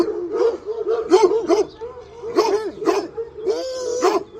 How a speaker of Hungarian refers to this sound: Két nagy szöveg volt a veranda két oldalához verve, s a szöveghez egy-egy véreb láncolva. A vérebek egyszerre ugrottak fel, hogy magukat letépjék, s rettentő morgással vicsorították fogaikat.